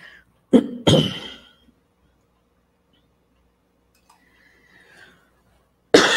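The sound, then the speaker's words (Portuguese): A person with a tickle in the throat coughs and clears their throat twice in quick succession, loud, then a quiet pause before another sharp cough bursts out at the end. “Ai, deu pigarro.”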